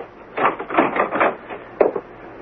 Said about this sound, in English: Well, that's a new one. I've never heard of a jail where the guard knocks before coming in to see the prisoner. Well, I'm sorry, you see, this isn't really much of a jail, just this room in back of the police station with an ordinary door on it,